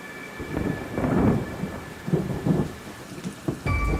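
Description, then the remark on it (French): Heavy rain pours down steadily while thunder rumbles and swells in low, rolling waves, loud, with a sharper crack near the end of the storm. “Il va y avoir des journées vraiment de pluie diluvienne.”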